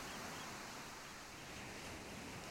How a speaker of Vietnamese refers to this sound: Nằm ngửa mặt nhìn lên bầu trời, bạn có thể nghe tiếng sóng cuộn rì rầm từ xa.